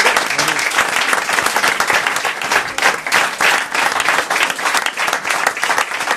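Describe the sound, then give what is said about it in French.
Sustained audience applause on the Le Petit Journal set on Canal Plus, to thank Ariane or to greet Valérie Damido's entrance: a dense crackle of many hands clapping loudly and steadily for the full length, with no pauses or voices standing out. “Alors, sons des applaudissements pour remercier Ariane ou pour saluer l'entrée de Valérie Damido dans ce plateau.”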